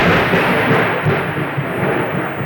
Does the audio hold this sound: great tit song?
no